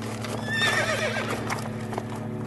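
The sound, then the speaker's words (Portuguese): A horse whinnies loudly while hooves clop at a steady rhythm, with a low rumbling hum of a horse-drawn carriage underneath throughout. “Ele mandou parar a carruagem.”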